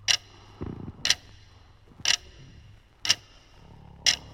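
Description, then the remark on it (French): A grandfather clock in a living room ticks slowly and steadily, five crisp ticks about one second apart, with a faint low rustle early on. “Il se tourne et se retourne dans son lit, en écoutant la grande horloge du salon égrener les secondes.”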